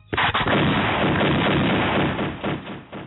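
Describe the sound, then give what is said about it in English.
A loud burst of gunshot sound effects, several sharp blasts in quick succession merging into a dense, booming barrage that fades slightly at the end, with no talking. “All of that warrants gunshots and a call after the show.”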